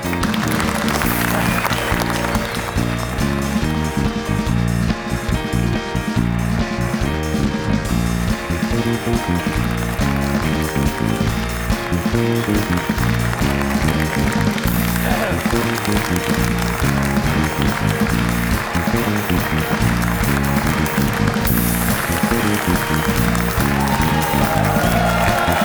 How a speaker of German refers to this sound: Weiter Applaus, Micha.